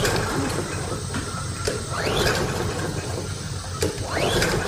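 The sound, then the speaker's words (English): A lawnmower's pull-start cord is yanked repeatedly, each tug giving a rising, ratcheting whir about every two seconds over a steady mechanical rattle. The engine never catches, and no one speaks. “There's no need to pull your shoulder out of your socket.”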